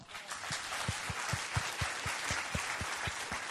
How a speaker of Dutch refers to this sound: Halleluja. Prijs de Heer. Halleluja. En nou gaan we ook even heel hard klappen voor onze heiland.